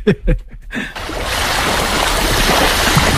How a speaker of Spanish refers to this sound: Olas. Muy bien, correcto. Olas, el mar, sí, muy bien.